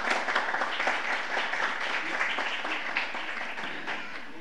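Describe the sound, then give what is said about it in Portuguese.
A crowd applauds steadily for several seconds as part of a brief tribute ceremony, a dense wash of many hands clapping at an even, sustained loudness without a break and no voices standing out. “Salva de palmas.”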